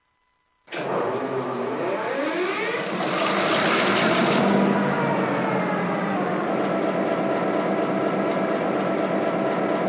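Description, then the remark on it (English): A locomotive engine, turned on a turntable to head east, starts up abruptly and runs loud, its pitch climbing briefly as it revs before settling into a steady, dense rumbling drone with a mechanical whine on top. “engine was facing the wrong way. I also had to turn it on a turntable, headed east.”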